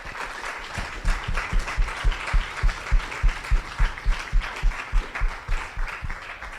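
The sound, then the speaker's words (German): An audience at the Volkskundemuseum applauds the whole event team loudly, a dense wash of many hands that soon settles into steady, rhythmic clapping in unison, with no one speaking over it. “Also das ganze Team hat sich mal einen riesen Applaus verdient.”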